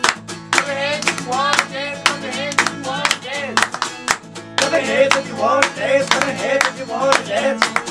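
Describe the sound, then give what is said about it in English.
Steady, rhythmic hand claps land on a regular beat, crisp, over a musical backing with singing voices. “Clap your hands if you want to dance.”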